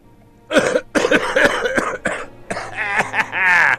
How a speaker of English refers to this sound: I was waiting for you to be like, woo. I like the cough, though. That's better.